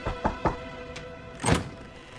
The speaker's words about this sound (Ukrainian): Місіс Бьорд стукає у двері кімнатки сторожа.